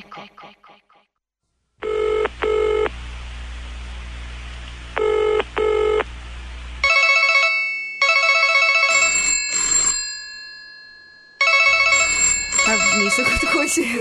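A telephone rings loudly in two short double bursts over a steady low hum, followed by a stretch of bright electronic tones and beeps.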